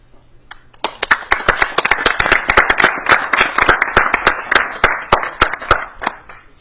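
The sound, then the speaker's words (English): A round of applause at a Newcastle County Council meeting for a Newcastle County Fire Prevention Award winner, dense overlapping claps with sharp individual hand strikes standing out, building in the first second and holding steady and fairly loud throughout. “Once again, if you would give a round of applause for not only our winning ball, but”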